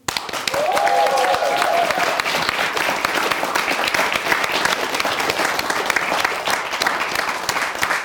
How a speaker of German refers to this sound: Und der Chef von dem Ganzen, der Kreativdirektor, der sich alles ausdenkt und versucht, das hier irgendwie in die Bahn zu leiten, dass auch das Publikum klatscht,